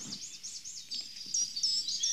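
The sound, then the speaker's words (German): A bird calls in a quick run of high, thin, repeated chirps, looping notes that grow slightly louder and sharper toward the end, with no voices. “Ich höre jetzt einen Vogel, hör mal.”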